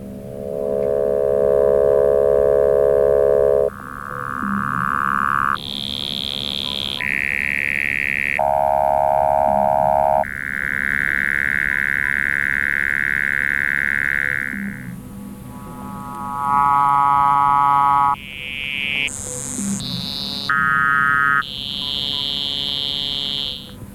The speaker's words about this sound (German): Das waren also jetzt gefilterte Töne des Sägezahngenerators.